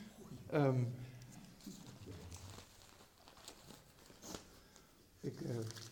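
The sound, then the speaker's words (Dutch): Paper crinkles and rustles in short, scattered bursts as it is picked up and handled, with a voice briefly speaking at the start and again near the end. “Ik moet het papier pakken, want het is ook naar aanleiding van vragen die ik wel eens krijg, en dat begrijp ik ook wel.”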